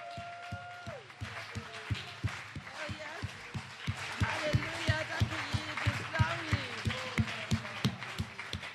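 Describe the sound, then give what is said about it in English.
An audience, on their feet, claps their hands together for their pastor in a steady, brisk rhythm, the sharp beats repeating evenly throughout, with excited voices calling out over the clapping. “Why don't you get on your feet Warum and clap your hands und klatsch and die Hände.”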